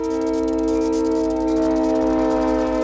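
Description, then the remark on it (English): A train horn in Ann Arbor blows one long, continuous chord as the train approaches a street-grade crossing without gates, loud and steady for the whole stretch, with a low rumble underneath and no voices. “Every train's horn sounds more than 160 times round trip through the city.”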